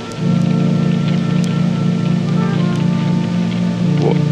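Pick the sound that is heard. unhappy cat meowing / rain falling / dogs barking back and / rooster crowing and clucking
rain falling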